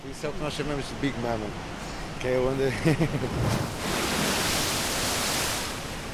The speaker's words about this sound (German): Die Wellen in diesem Tiefseegraben prallen von der einen Seite zur anderen und peitschen sich so immer weiter in die Höhe